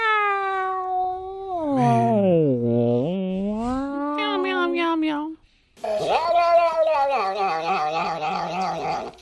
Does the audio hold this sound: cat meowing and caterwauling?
yes